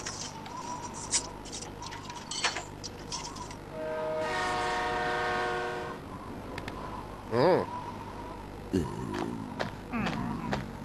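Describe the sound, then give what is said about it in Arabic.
A coal-fired train rumbles along a track laid out in a circle, with metallic clanks and rattles, and a long, steady whistle blast sounds partway through before the wheels clatter on. “ضعوا السكة على شكل دائرة عندما يصل القطار سيدور من دون توقف إلى أن ينفد منه الفحم.”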